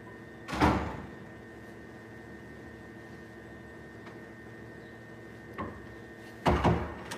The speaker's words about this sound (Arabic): صك الباب يا حبيبتي، صك الباب